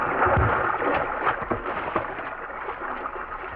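A small boat slides along a river, with steady water wash and a few soft knocks and splashes against the hull, continuous and fairly loud throughout. No one speaks.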